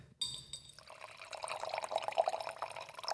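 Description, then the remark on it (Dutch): White wine is poured into a glass using a Coravin: a sharp start, then a steady, slightly hissing trickle of liquid that runs for about three seconds, with no one talking. “Ja, ik heb een drankje. Ik ga hem even inschenken.”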